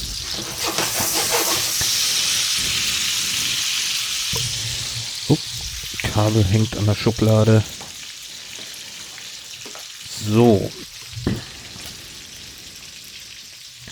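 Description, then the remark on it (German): 215 grams of zucchini sizzles in a frying pan with a steady hiss that runs the whole time, while a man speaks briefly in the middle and a few light kitchen clicks sound. “215 Gramm Zucchini habe ich da jetzt. So, und ab in die Pfanne damit.”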